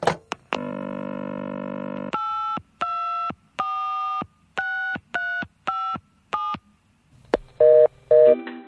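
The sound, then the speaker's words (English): A phone line opens with a few clicks and a steady dial tone, then about eight quick keypad tones beep in an even rhythm as someone dials the Chocky Choc Chocolate Prize Hotline to find out a prize. Two short ringing bursts follow, and no one speaks. “I ate this bar of chocolate and he told me to phone a number to find out my prize.”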